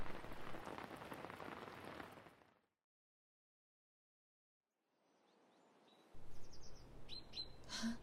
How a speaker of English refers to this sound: Why are you leaving your coat and umbrella? But it's raining and you need to stay dry too.